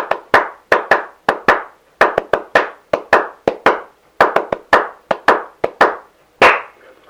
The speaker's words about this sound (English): We had a rhythmic way of clapping that we called the university clap. It went something like this.